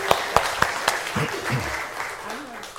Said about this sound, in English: All right, yeah, let's give her a warm applause.